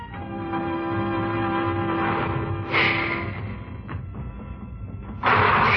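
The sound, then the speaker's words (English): A train rumbles steadily with a sustained mechanical hum, punctuated by sharp bursts of hissing as it pulls away, the sound fairly loud with no voices. “The train started away without us.”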